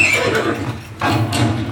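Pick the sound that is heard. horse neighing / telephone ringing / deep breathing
horse neighing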